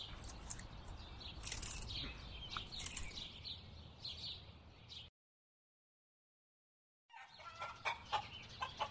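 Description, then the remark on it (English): A flock of chickens at a farm clucks and squawks over a busy barnyard background, falls silent for a couple of seconds, then resumes its chattering calls. “swings between the chickens.”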